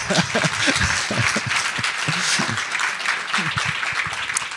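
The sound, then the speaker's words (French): An audience at a film screening applauds a former dancer, choreographer and director of dance at the Paris Opera (1995 to 2014): a dense, crackling wash of many hands clapping that holds at a fairly loud, even level throughout, with some faint voices murmuring underneath. “2014, ce qui nécessite d'autres applaudissements, je crois.”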